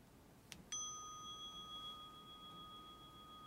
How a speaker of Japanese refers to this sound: 今から鐘の音が始まりの合図になります。そして終わりには鐘の音が3回鳴ります。